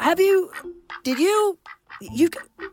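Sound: duck quacking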